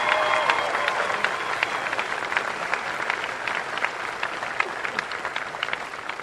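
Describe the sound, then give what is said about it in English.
An audience at a speech applauds the women who organized the event, steadily, with dense overlapping claps forming a continuous wash of sound at a fairly strong, even level and no speech. “get a proper applause”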